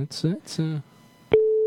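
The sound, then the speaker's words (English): A voice speaks briefly, then after a short pause and a click, the steady ringing tone of an outgoing telephone call starts and holds clearly to the end. “listen, it's ringing.”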